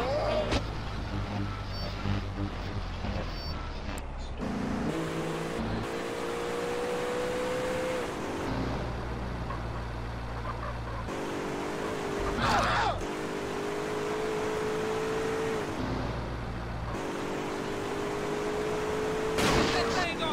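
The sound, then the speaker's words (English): A car engine revs and climbs in pitch several times as it accelerates while being driven badly, broken up by abrupt loud bursts and clattering, continuous throughout. “Terrible at driving cars.”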